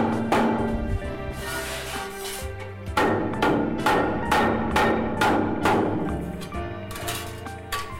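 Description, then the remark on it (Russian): A rubber mallet taps repeatedly in a steady rhythm to straighten a plate, about a dozen dull knocks over a low background hum, with no one speaking. “Остатки грязи убираем. Для этого у нас есть... Молоток резиновый.”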